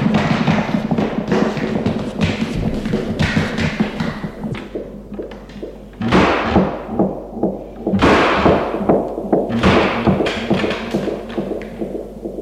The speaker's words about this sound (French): Un corps qui tombe à terre. Bousculade.